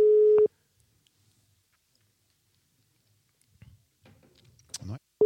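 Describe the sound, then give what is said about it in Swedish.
A steady telephone ringback tone sounds on an unanswered call placed to thank a subscriber, then falls silent for a long pause before resuming at the end; in between come faint rustling and a few brief handling or mouth noises. “Nu ringer vi en annan här då.”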